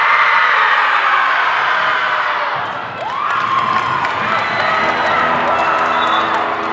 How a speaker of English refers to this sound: Before the opening buzzer, the Jaguars do a breathing exercise, a collective roar to get their nerves out.